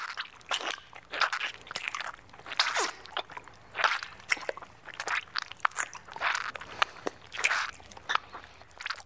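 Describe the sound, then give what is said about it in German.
Wet squelching and smacking sounds repeat in an irregular rhythm of moist clicks and squishes, fairly loud, with no voices: sounds inside a woman's vagina, recorded in 1995 with contact microphones inserted vaginally. “1995 hat sich die Künstlerin Kontaktmikrofone vaginal eingeführt, um die Klänge ihres Intimbereichs aufzuzeichnen.”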